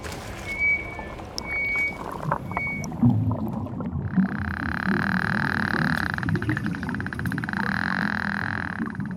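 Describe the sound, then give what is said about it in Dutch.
Underwater beluga whale echolocation clicks, picked up by a microphone lowered into the water: short high whistles first, then a steady buzzing hum with rapid trains of sharp clicks running through it, over a low rumbling background. Belugas use these clicks to hunt. “Dat zijn zogenaamde kliks. Beluga's maken deze geluiden om mee te jagen.”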